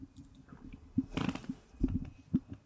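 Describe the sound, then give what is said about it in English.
A six-month-old baby boy, asked at the microphone to say hello, passes gas in one short, sputtering burst, surrounded by faint wet mouth and handling noises, with no talking. “Pretty hilarious that I asked him on the mic to say hello and he farted.”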